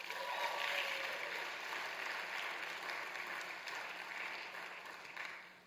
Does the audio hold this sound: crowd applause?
yes